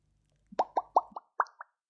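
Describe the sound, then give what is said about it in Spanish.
A quick, uneven run of about eight bubbly plops, each a short hollow pop with a slight upward bend in pitch, fairly loud against a quiet background. “Las burbujas hacen...”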